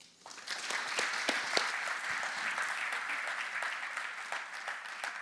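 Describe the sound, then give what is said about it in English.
An audience claps steadily, a dense wash of many hands with a few sharper individual claps standing out, holding at an even, moderately loud level throughout. “I know you just clapped like 5 times”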